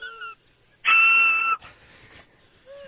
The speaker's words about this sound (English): Another one that's like super loud. It's like a loud whistle. I do it at like Dodger games.